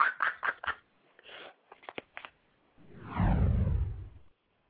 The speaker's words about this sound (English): You gotta love that whoosh sound.